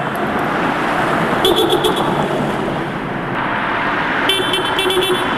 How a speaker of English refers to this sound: a heavily edited sample of the 37 cars who honk for a ceasefire in Gaza